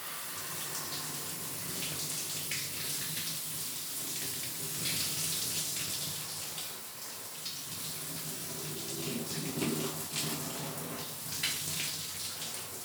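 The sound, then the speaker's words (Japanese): A shower sprays steadily onto a person's body while they are being washed, a continuous hiss of running water splashing with slight fluctuations, filling the whole stretch with no one talking. “シャワーかけてくれ。”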